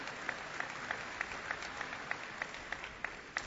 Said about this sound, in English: Sure, your applause is very appropriate.